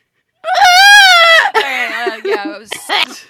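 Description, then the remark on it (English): A person lets out a loud, wavering, high-pitched screech lasting about a second, imitating an anaconda, and then speech follows right after. “Oh god, somebody supercut all the bad snake screeches that are in this episode and send it to us, please.”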